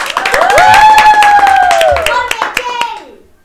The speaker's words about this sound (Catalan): Un fort aplaudiment per aquesta jove promesa!